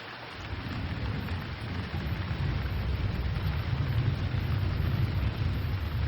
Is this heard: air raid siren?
no